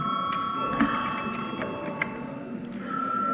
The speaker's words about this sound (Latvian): Par 45 pret nav kvoruma. Tā, mums līdz ar to ir vēlreiz jābalso. Lūdzu zvanu.